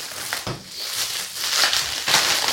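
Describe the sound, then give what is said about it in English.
A plastic bag crinkles and rustles steadily for a couple of seconds in a kitchen during cooking, a dense, hissy crackle with a few sharper bursts as it is handled beside a hot cooktop. No one speaks. “Oops, don't put the plastic bag on the cooktop because the cooktop is hot.”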